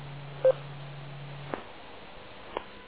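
A handheld radio, a handy talkie, gives one short, loud mid-pitched electronic beep over a steady low hum, which cuts off with a click; another faint click follows a second later, with no talking.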